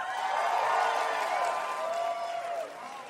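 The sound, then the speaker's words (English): A crowd applauds steadily for a few seconds, the dense clapping mixed with scattered whoops and cheers, then tapers slightly toward the end. “If there's a pause before you applaud, I know you're full of shit.”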